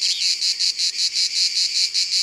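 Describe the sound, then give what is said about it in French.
Many male cicadas, insects about 3 cm long, drone in a loud, harsh, high-pitched buzz that pulses rapidly and evenly, roughly five throbs per second, singing to attract females in a grove of garrigue scrubland with holm oaks and thorny bushes in the south of France, on 8 July at 11 a.m., with no voices or other sounds. “C'est le 8 juillet, 11h du matin, et il y a beaucoup de cigales ici.”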